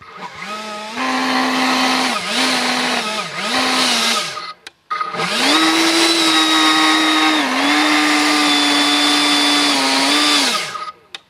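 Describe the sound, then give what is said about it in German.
A battery-powered electric leaf blower, with its battery worn on the back and a turbine wheel drawing air through the tube, runs loud at about 80 decibels, a steady whining motor hum with rushing airflow, revving up and dipping briefly a few times before a longer sustained burst, with no voices. “Es klingt etwa so wie die Mutter Staubsauger daheim. Die Benziner machen mehr Lärme, etwa 90 Dezibel. Der Elektrolaubbläser nur gerade 80 Dezibel.”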